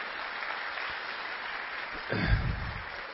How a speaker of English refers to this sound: So he's not here, but how about give him a round of applause?